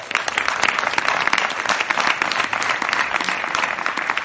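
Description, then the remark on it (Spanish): Steady, loud audience applause for an invited guest fills the whole stretch, a dense wash of many hands clapping without pause, with no voices coming through. “Pero, por favor, un aplauso para...”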